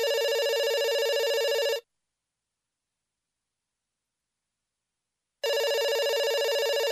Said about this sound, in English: The phone rings.